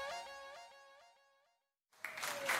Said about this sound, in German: Yes, komm, lass uns mal Jesus den größten Applaus geben. Lass uns mal ihn ehren. Ich höre euch nicht. Ansbach, Erlangen, Nürnberg, was ist los bei euch? Macht mal Lärm für Jesus.